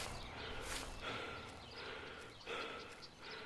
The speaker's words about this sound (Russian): Что это? Что это? Это олень.